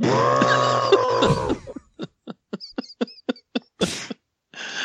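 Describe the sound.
A person imitates an elephant's trumpet with a long, loud, strained blare lasting about a second, then breaks into a quick string of short, breathy bursts like chuckles or coughs.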